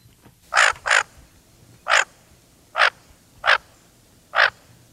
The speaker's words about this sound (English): And here to talk about the joy of duck watching, and tell us which kind of duck that was, is WNYC news editor and bird enthusiast Kate Hines, who prepared a feature on this particularly for the winter.